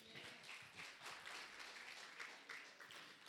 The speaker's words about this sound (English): Everybody stand to your feet and give the Lord a hand clap.